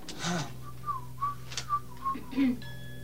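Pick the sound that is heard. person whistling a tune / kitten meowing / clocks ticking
person whistling a tune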